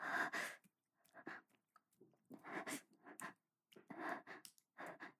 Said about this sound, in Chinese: 什么什么喘息声？你听错了吧？是因为今天外面有点冷。